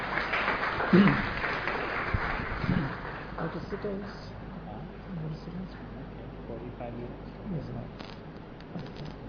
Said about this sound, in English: So I'd like to welcome amongst ourselves, and please welcome His Holiness Devamrita Swami with a big round of applause.